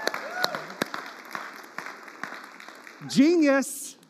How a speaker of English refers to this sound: Can y'all just give me a round of applause for my